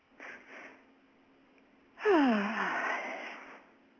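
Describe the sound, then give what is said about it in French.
A soft, short intake of breath, then a long, loud exhale that turns into an audible sigh with a falling voiced tone, with no talking; a big deep breath taken during a guided stress-relief session. “Et tu prends une grande respiration.”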